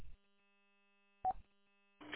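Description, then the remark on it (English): A door lock buzzer, pressed by people inside who see visitors arrive on camera, gives a faint, steady electric hum, interrupted by a sharp clunk partway through, then a louder rattling burst at the end. “You'll hear the buzzer on the door lock.”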